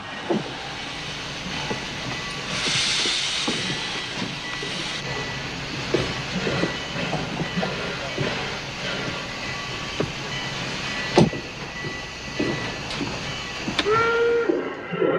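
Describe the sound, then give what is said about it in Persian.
A train rumbles steadily along the rails with irregular clanks and clatter, and a short, tonal whistle sounds near the end; no one speaks. “آخرین قطار ساعت 9 شب میره.”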